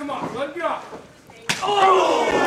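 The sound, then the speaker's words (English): A single loud, sharp slap cracks out midway through a wrestling match between Max Carnage and Dino Benjamin, preceded by a man's excited commentary and followed by a burst of voices and crowd noise. “The slap heard round the spire.”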